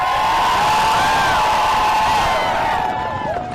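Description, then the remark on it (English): A large crowd of fans at a sled dog race cheers and whoops loudly and continuously, with overlapping shouts and rising calls filling the air before easing slightly at the end. “But I also want to say a quick thank you to all the fans that come out and cheer us on.”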